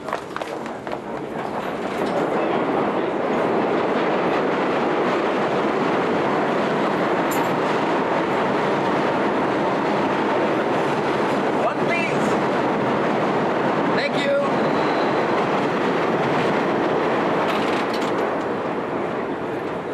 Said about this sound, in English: Now, I could walk there, or take a bus, or even a taxi, but the fastest way to travel in this town is to go under it, on the subway.